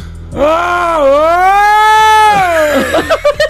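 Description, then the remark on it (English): A long, wavering scream of roller coaster riders, rising and dipping in pitch for about two seconds, loud, then breaking into short choppy yelps at the end. “Roller coaster is it, yes.”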